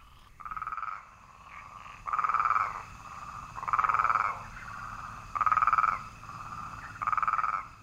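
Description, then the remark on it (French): Frogs croak in a steady chorus in the countryside, with louder pulsing bursts rising roughly every one and a half seconds over a continuous lower trill, with no voices. “Parfois, on entend les doux chants des grenouilles qui s'insinuent dans le paysage sonore de cette si jolie campagne.”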